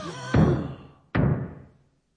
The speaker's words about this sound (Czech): A kdo to tluče?